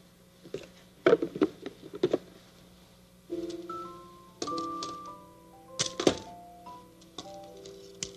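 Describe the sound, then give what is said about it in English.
A few sharp knocks at the door, Mrs. McFeely arriving to visit Mr. Rogers, land in quick succession, followed by a light melodic tune of stepping piano-like notes, with a couple more thumps mixed in. No one speaks. “Somebody at the door.”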